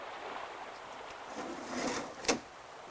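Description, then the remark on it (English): A steady, broad rush of falling water fills the scene, constant and fairly loud, with a single sharp knock or thud near the end and no voices. “It's only a waterfall.”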